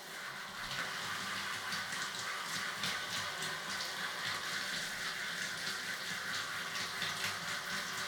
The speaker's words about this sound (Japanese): シャワーで流していくね。